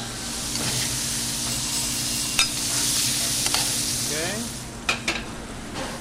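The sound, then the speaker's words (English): Flour-coated frog legs fry in hot oil in a pan with a steady, crackling sizzle, broken by a few sharp clicks and pops and the scrape of stirring toward the end. “So you can see that kind of that white foamy look is going away, and we're getting more clear oil. That's allowing us to know that our frog legs are getting close.”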